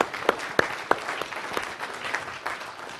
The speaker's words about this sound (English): Should we give the Lord a clap for that one? Yeah.